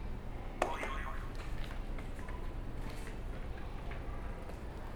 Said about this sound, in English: Okay, do you want to hit another buzzer for me before we do our next activity?